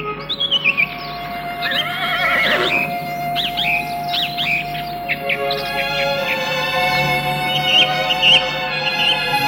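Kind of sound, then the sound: animal, horse neighing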